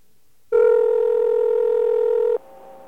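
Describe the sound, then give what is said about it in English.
A telephone dialing tone while calling a New York Telephone business office: a single steady, mid-pitched electronic tone sounds loudly for about two seconds, then cuts off abruptly, leaving a faint hum on the line. “This is what happens when we call a New York Telephone business office to find out if something has perhaps changed.”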